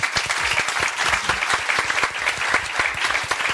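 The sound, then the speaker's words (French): A crowd claps steadily throughout for three columnists at the end of a debate show, a dense, even wash of many hands with sharp overlapping slaps and no one speaking over it. “On peut applaudir en tout cas nos trois chroniqueurs.”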